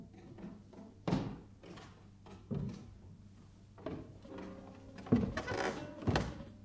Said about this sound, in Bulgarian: О, ето! Някой се качва по стълбата.